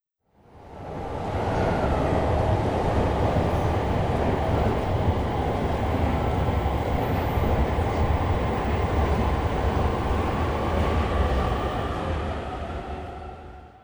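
Steady rumble of a train interior in motion, with a low droning hum, rattling wheels, and a faint high whine, fading in and out around a continuous, fairly loud ride.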